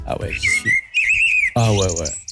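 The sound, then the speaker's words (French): Someone whistles a bright, warbling imitation of birdsong in a couple of short, wavering phrases, fairly loud, with a brief burst of voice at the end. “moi, tu mets un jardin avec un petit transat et le chant des oiseaux et je suis vraiment.”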